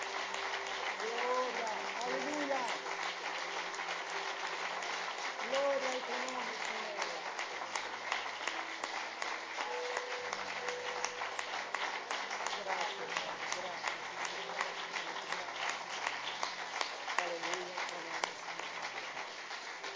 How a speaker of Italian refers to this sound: Alziamoci in piedi e facciamo un forte applauso a Gesù.